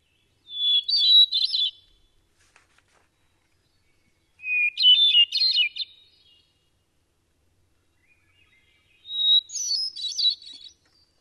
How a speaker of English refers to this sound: Now, the other kind of thrush, and I'm going to play this real quick, the hermit thrush is much more melodic.